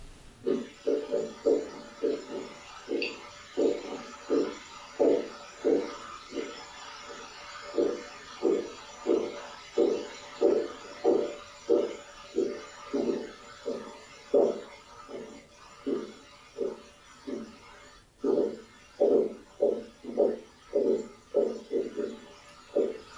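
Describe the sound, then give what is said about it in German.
Steady, repetitive construction noise from two floors below: low, muffled thuds pulsing about twice a second for the whole stretch, fairly uniform in loudness, with no voices over it. “hast du ein bisschen Baustelle bei dir? Ja, ist ein bisschen laut unten, ne?”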